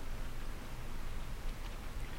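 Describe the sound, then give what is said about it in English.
Soft, steady rain patters against the glass of windows as a continuous hiss, with a few faint, slightly sharper drips standing out now and then. Quiet and even throughout, with no voices. “If you listen very carefully, you can just make out the gentle pattering of the rain against the windows.”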